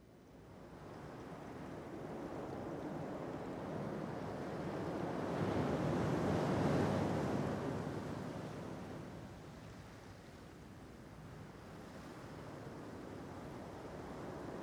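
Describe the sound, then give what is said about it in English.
Steady ocean surf mixed with wind noise, a broad rushing roar that swells to a louder peak around the middle, then eases back to a constant wash. No voices. “The ocean takes up most of our planet.”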